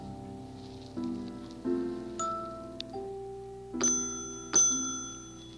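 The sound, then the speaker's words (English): The doorbell at Lady Elaine Fairchild's home rings out as a chiming melody of about six bell-like notes, each struck tone ringing on and overlapping the next, clear with no voices. “You can ring her bell.”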